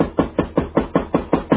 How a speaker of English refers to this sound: Better knock again.